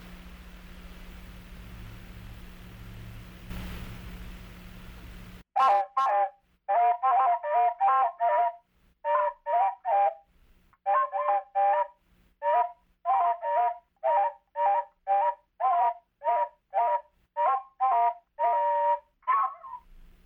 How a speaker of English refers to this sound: Both birds started singing their own songs at the same time, and it sounded like this.